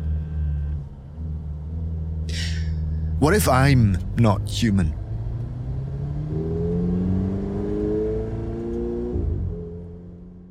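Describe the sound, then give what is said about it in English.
A car engine idles with a steady low rumble, then revs up as the car reverses, its pitch climbing and holding before dropping off. A voice briefly speaks over the engine noise early on. “So then no one could fault me for wondering what I did as I tossed the new book into the passenger seat, reversing my car.”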